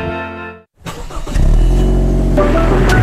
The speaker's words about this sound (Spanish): En Salfarrent hay un auto preparándose para ir a veranear contigo.